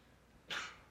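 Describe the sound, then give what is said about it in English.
A single sharp sneeze bursts out halfway through, a quick breathy blast that fades within a fraction of a second, set against quiet surroundings with no one talking. “Bless you.”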